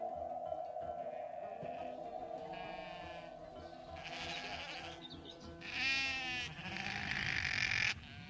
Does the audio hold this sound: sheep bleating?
yes